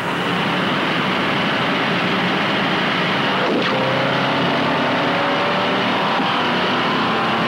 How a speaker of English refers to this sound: Now, how about passing acceleration, a big safety factor in highway driving? Both cars will accelerate together up to 50 miles an hour, hold on 50, then on signal, accelerate to 80.